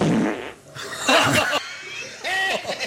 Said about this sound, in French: La mouche qui pète.